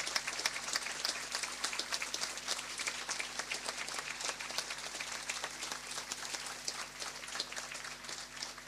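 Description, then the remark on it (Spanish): A large crowd of thousands applauds steadily in recognition and thanks to the relatives, dense overlapping claps forming a continuous roar that holds at an even level for several seconds without any voices over it. “Quiero darles un abrazo simbólico y pedir a las miles de personas que nos acompañan que me ayuden a regalarles a todos los familiares un merecido aplauso, bien fuerte, de reconocimiento y de agradecimiento.”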